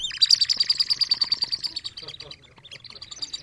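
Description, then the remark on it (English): A toy bird whistle trills near a microphone, a rapid, warbling series of high chirps that flutters on, then softens briefly before picking up again with lighter tweets. “Now you put this... Yeah, you put this near a microphone, man, and you can have fun making all these bird sounds.”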